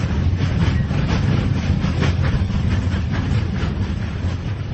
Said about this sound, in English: He is traveling east on the train along with 2 colleagues from the mining company and one of the men's sons. They are riding in a freight car near the train's tail.